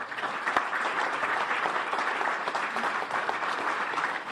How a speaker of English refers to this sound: Attendees of the 2012 Arctic Imperative Summit again gave Edward Ita standing applause after his closing remarks.